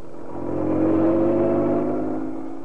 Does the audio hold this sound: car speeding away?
yes